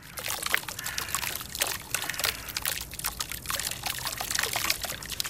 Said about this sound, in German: Ja, das ist eher ein neues. Ein neues? Weil es plätschert so. Es ist also nicht ein Gebrauchsbrunnen wie mit, in der Innenstadt, sondern es ist ein Brunnen, der für sich selber redet. Er ist an einem leisligen Ort. Es ist nicht in der Stadt.